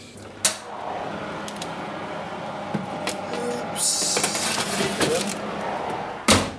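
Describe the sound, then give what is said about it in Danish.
Clatter as trays are pushed into an oven: a sharp metallic clank near the start, a scraping slide in the middle, and another loud bang as the oven door shuts. “Nå, skal vi smide dem i ovnen?”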